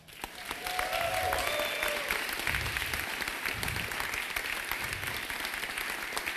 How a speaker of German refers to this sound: Das ist euer Applaus. Da geht noch was, da geht noch was, da geht noch was!